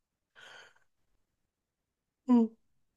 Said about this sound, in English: All my yawns, as always, are not fatigue. They're just energy moving.